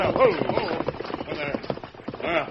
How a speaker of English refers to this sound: What ail horses? Nothing here to scare them that way.